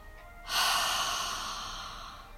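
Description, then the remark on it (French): A long, steady breath pushed out through the mouth after a one-second breath hold, starting with a soft rush and slowly fading over about two seconds, with no talking. “Inspire dans le ventre, puis dans la poitrine. Tiens la respiration une seconde. Expire par la bouche.”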